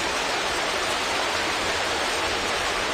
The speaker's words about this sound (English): It'd be much easier for him just to get one of these CDs. It would. So you've got on here Rain Shower. This is a nice one.